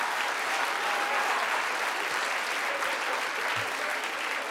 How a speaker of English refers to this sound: Wait a minute. Y'all ain't supposed to applaud for that shit.